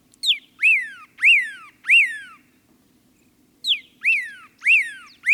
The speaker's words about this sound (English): And there's a pyraloxia, singing from atop a yucca.